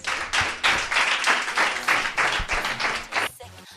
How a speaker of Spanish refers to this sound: Un aplauso para ellas.